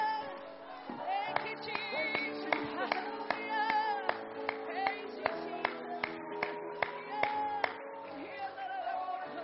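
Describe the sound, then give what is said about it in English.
An audience claps hands together in a steady rhythm, sharp claps landing about twice a second over sustained music and a swell of voices. “Come on, why don't you just clap your hands right now?”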